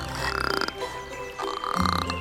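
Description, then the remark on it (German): A frog croaks in two rough, rattling bursts, each a quick run of throaty pulses, with a short pause between them and no talking over it. “Hör doch mal auf zu quaken.”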